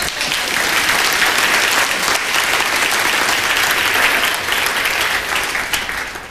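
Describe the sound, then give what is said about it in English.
An audience claps steadily for about six seconds, a dense, even patter of many hands that holds at a loud level before tapering off at the end. “So you can go sit down. Give him a hand.”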